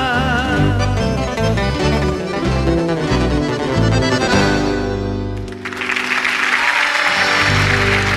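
Lively accordion-led folk music plays for about five seconds, then gives way to a dense, steady burst of audience applause that carries on loudly to the end.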